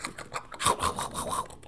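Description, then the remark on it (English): Quick, repeated nibbles on a raw carrot: a rapid run of small crisp, scratchy crunches at a steady rhythm, fairly quiet, with no talking. “Is that a crunch? That sounds like a nibble.”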